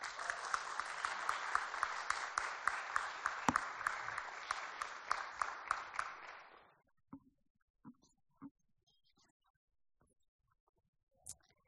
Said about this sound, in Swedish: Så hörni, ge en applåd och välkomna fram